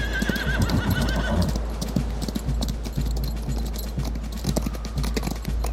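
A horse clip-clops along at a steady rhythm, hooves knocking loud, while an early whinny rises briefly in the opening seconds.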